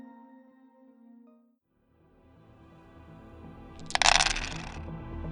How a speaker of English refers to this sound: Her dice pool is 6 dice, so let's start rolling and see how she does under pressure.